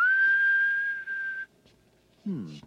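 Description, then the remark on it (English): A person whistles one long, steady, level note for about a second and a half, then stops, whistling to locate lost keys on a key ring that beeps when whistled for. After a brief quiet gap, a short burst of a voice follows. “It's one of those key rings that beeps when you whistle for it.”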